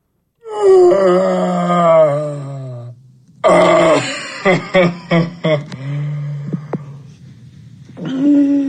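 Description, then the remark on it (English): A fairly loud voice lets out long, drawn-out moans, then a run of short, breathy grunts, and finally another low groan. No clear words are spoken. “I mean, there's weird breathing. There is talking underneath his breath, and it is just bizarre.”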